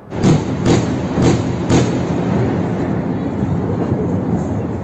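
Four heavy explosive booms from an Israeli airstrike on Gaza strike in quick succession, then a continuous low rumble carries on for several seconds. No voices are heard.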